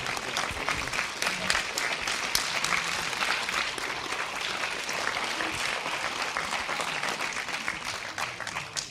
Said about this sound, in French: D'abord, merci pour les applaudissements.